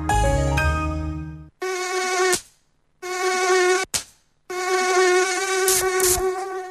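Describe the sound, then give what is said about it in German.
A high, whining mosquito buzz comes in three close bursts with short silent gaps between them, loud, with no one talking. “Antibrum, der wirksame Schutz gegen Mücken und Zecken.”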